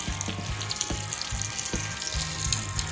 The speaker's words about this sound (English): Oh, believe me, it was great. That was a pork shoulder that I did on a grill. Yeah, it was grilling.